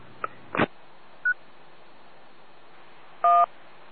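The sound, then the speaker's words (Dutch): Electronic radio transmitter beeps, an attention tone always sent first at the start of a transmission: a couple of sharp clicks, a short high pip, then a louder half-second multi-tone beep near the end, with faint static hiss and no talking. “Er is altijd een pieptoon wat eerst uitgezonden wordt.”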